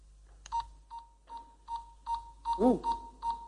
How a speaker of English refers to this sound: All right, you may start. Please start the buzzer.